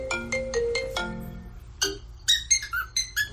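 A mobile phone's alarm ringtone plays a quick run of bright electronic notes, then a parrot answers with a series of shrill, whistled chirps imitating the alarm tune, fairly loud.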